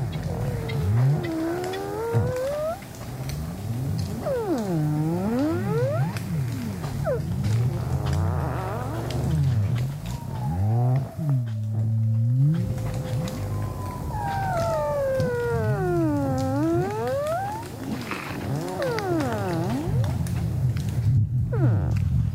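Sea ice pressure ridges, where sea ice and freshwater ice mix and merge, squeak and grind as the lumps rub together: a steady low rumble underlies repeated swooping, whining squeals that dip and rise in pitch like eerie moans, with no voices present.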